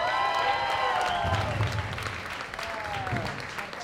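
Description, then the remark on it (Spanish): An audience bursts into steady applause to welcome Adrián Parada, a dense wash of clapping lasting several seconds, with cheering voices rising over it at moments. “¡Un aplauso para Adrián Parada!”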